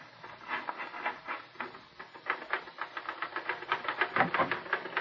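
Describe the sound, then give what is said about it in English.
Rapid mechanical clacking of typewriter keys as a story is written, in an uneven, busy rhythm, the bright strikes growing denser and a bit louder toward the end, with no voices. “sit down at that typewriter and write an honest story for change.”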